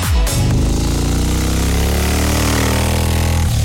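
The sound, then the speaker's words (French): A small scooter engine revs up hard from a sharp start as a radio contest alert, its pitch climbing steadily and buzzing loudly throughout, alone with no voices. “L'alerte, elle ressemble à ceci.”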